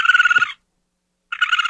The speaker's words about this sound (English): Birds? No, it does sound like a bird. So it's not so much as like I'm scared as I just think they're absolutely repulsive, but that's a possum.